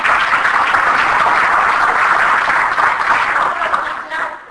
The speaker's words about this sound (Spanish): Un aplauso para él.